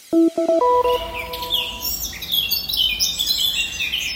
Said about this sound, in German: Jetzt im Frühling weckt mich ja oft gar nicht der Wecker, sondern das Vogelkonzert draußen vorm Fenster. Ich wohne in der Stadt, da kommen viele Vogelarten gut zurecht.